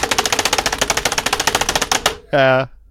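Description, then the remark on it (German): Frantic, rapid typing on a computer keyboard, imitating the typical sound of a hacker: a dense run of loud clicks lasting about two seconds, followed by a brief harmonic tone or vocal sound at the end. “Wir vergewaltigen unsere Tastatur.”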